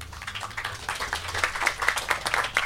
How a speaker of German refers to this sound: und weil ich denke, mitmachen ist immer toll, finde ich, allein seine Anwesenheit ist vielleicht schon einen kleinen Applaus wert.